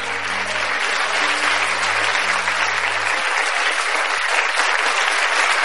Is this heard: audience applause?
yes